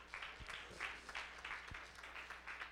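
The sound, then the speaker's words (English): An audience breaks into sustained applause as a hand clap of praise to the Lord, many hands clapping together in a dense, steady wash for a few seconds, with no one speaking over it. “Somebody give the Lord a hand clap of praise.”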